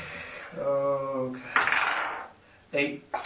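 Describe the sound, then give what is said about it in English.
Dice clatter and tumble across a tabletop in a bright, rattling burst, followed by a couple of short knocks as they settle, after a drawn-out vocal sound at the start; the dice are rolled for damage in a tabletop game. “And you best roll more than 5 when you do your damage.”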